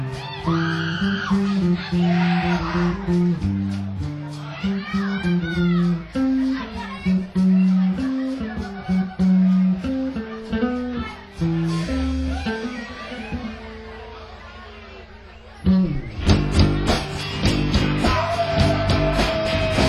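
A live bass guitar solo: a run of deep, plucked notes stepping up and down in a melodic line, with a louder, fuller burst of sound near the end.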